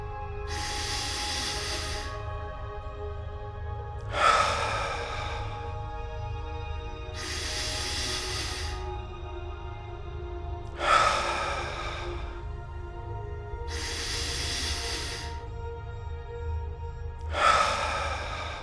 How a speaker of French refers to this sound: Concentrez votre attention sur votre respiration. Respirez profondément.